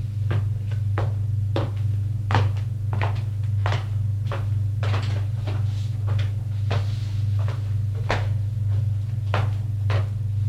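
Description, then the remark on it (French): A door being opened: a string of sharp clicks, knocks and latch rattles at irregular intervals, moderately loud, over a steady low electrical hum, with no voices. “On ouvre une porte.”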